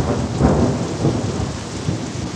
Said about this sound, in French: Ils crevèrent d'un coup, déclenchant une pluie aussi soudaine que violente.